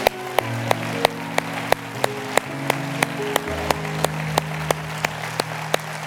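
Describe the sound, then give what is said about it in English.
An audience at a church service claps together in a steady, even beat, sharp, over sustained organ or keyboard chords that shift slowly underneath. No clear voices stand out. “And for one more time this morning, help me clap with a shout to God for the things that he's done, the blessings he's bestowed upon us.”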